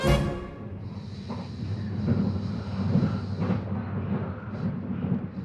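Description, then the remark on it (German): A steady low rumble of a moving train heard from inside a carriage, travelling towards Karlsruhe, with constant rolling noise and a faint high whine, continuous without any talking. “Ich sitze im Zug, schaue meine Notizen durch.”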